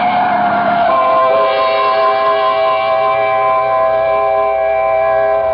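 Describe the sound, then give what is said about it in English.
A large truck bears down on a street, its loud, steady horn blaring continuously over a low engine rumble, unbroken for several seconds. “Look out for the truck”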